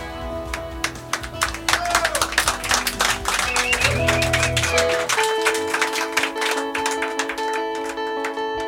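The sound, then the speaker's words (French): Audience applause for performers about to play an acoustic version: a dense, crackling patter of many hands clapping for about five seconds over held musical tones, then the clapping thins out while steady notes carry on. “Profitez-en, applaudissez-les.”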